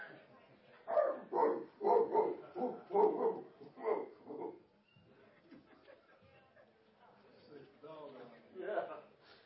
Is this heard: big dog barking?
yes